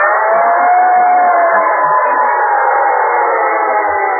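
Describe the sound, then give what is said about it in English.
A great big red fire engine's siren wails loud and unbroken for about four seconds as it roars down the street, a sustained tone drifting slightly in pitch over a dense, rushing roar, with no voices. “He looked out the window, and there, roaring down the street, was a great big red fire engine.”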